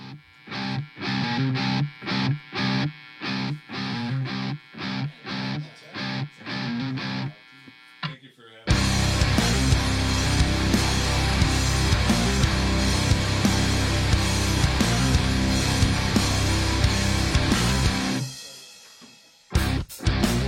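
A local band's brand new heavy rock song plays on Max Inc. Radio, opening with tight, rhythmic stabs of distorted guitar, then crashing into a loud, dense full-band wall of sound before briefly dropping out near the end.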